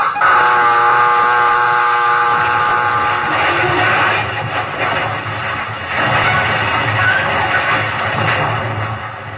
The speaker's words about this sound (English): First, you've heard the collision alarm. You will all now take action stations.